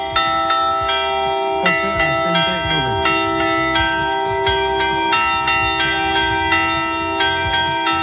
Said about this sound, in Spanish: Ya de niño identificaba cada toque de campana. Mira, como por ejemplo el de tormenta, también llamado anublado.